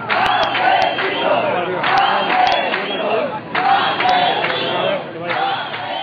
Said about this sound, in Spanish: En la concentración se escucharon gritos de rabia por la muerte de Amparo, que es considerada como un auténtico asesinato de la administración, y gritos de protesta y para evidenciar que la lucha ciudadana continúa contra los continuos abusos